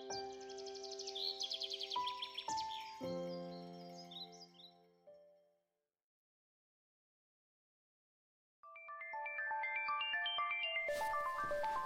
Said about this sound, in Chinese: 快把电话关了，吵死了。